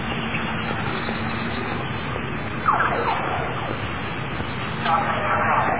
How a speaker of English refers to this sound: What is it? Police car. A police car is very often visits this part.